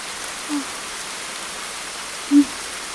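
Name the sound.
rain falling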